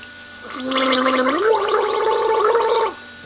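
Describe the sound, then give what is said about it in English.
A single sustained gargle lasting about two and a half seconds, a bubbling, rattling throat sound with a steady low hum that rises partway through, fairly loud and with no talking. “I got to gargle.”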